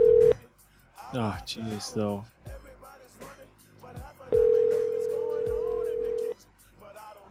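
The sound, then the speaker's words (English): Telephone dialing tones as someone tries phone numbers: a loud, screeching, steady electronic beep cuts off briefly at the start, then returns as a long held tone of about two seconds, with people talking in between. “I'm trying these numbers, man.”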